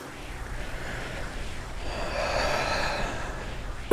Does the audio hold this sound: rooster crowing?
no